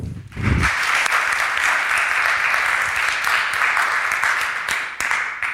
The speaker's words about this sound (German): Vielen Dank und bitte einmal klatschen.